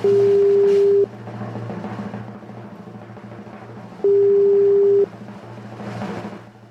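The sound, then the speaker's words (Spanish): A phone line rings out with two long, steady ringback tones about three seconds apart, clear and fairly loud over a low, constant hum, as a call to a female contest participant goes unanswered. “No contestó lamentablemente nuestra amiga.”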